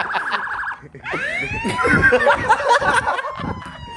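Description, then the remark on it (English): A loud police siren from a police pursuit wails in repeated rising sweeps after a brief pulsing start, with voices and bits of laughter mixed in beneath it. “We're being pursued by an entire police force.”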